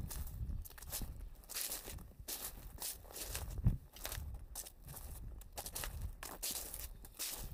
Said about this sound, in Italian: Eccezionale, è veramente eccezionale camminare qui sulle foglie, te faccio sentire.